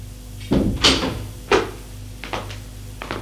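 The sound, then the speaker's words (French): A door opens with a wooden clunk and rattle as two police officers enter, followed by a few scattered lighter knocks and taps over a low steady hum, with no one speaking. “À la porte. Entrez. Les deux policiers entrent.”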